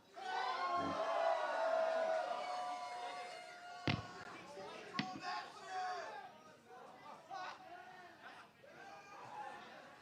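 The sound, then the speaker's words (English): A concert crowd cheers and yells loudly, a dense wash of voices with whoops and shouts, peaking early and then tapering into scattered cries and chatter, with a couple of sharp claps or bangs. “Make some noise!”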